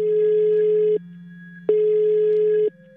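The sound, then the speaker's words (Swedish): A telephone ringing tone heard while a call connects: two steady, fairly loud one-second beeps separated by a short pause, over a constant low hum, with no voices. “Jag ringer upp Jakob Wennerlund för att be om råd.”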